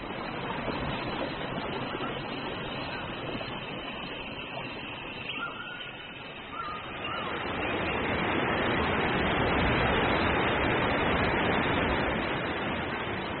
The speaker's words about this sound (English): do you hear something? Yeah, I do. I think it's the waterfall.